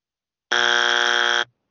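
A single loud, flat buzzer blast lasting about one second, harsh and steady with a rich harmonic tone, starting and stopping abruptly with silence on either side.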